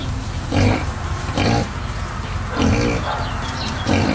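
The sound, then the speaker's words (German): Several mini pigs at an animal shelter in Pfullingen grunt in short, repeated bursts, some low and snorting, others higher and squealy, over a steady background rumble. No one speaks. “Und jetzt interessiert es mich noch, ob die Schweinchen vielleicht auch für die Fußball-EM was sagen können, vielleicht als kleines Tierorakel.”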